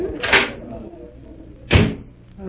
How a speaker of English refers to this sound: Here, this door opens,